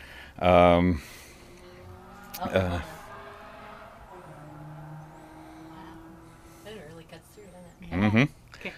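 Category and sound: animal, goat bleating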